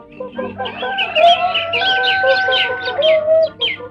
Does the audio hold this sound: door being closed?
no